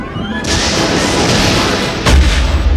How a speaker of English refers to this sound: Does an ion storm blast you with red lightning? Wait a minute, those are laser blasts! What?! Someone's shooting at us!